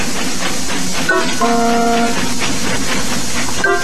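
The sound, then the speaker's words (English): Casey Jones' famous steam train whistle, cued during a stage play about Casey Jones at a station, sounds a steady multi-tone chord for about a second over constant loud hissing steam and rumbling, with brief shorter whistle bursts before and at the end. “And now check this out. Casey Jones' famous whistle.”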